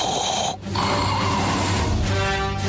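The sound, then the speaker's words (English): Heavy, raspy breathing by a woman, loud and nearly continuous, with one brief pause early on before the noisy panting resumes. “She's heavy breathing.”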